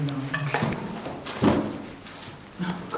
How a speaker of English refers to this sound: Coffee machine malfunction. Oh, great.